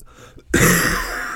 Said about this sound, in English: that's a dry cough.